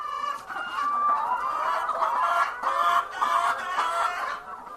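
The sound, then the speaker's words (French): A crowded flock of laying hens clucks and murmurs nonstop on a farm in Begedo, 45 km west of the town of Tinkodogo, while eggs are collected; many birds overlap in a steady, busy chorus, with no one talking. “ramasse fièrement des œufs de poule pondeuse dans sa ferme.”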